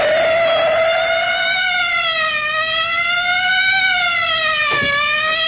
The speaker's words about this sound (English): Why don't you know a police siren when you hear one?